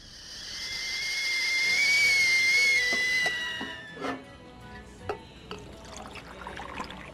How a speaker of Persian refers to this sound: تو باید خیالاتو کنار بذاری، اون فقط آب جوش بود.